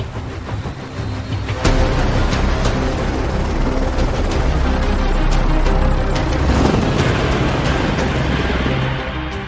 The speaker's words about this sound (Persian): هلیکوپترها بلند شد.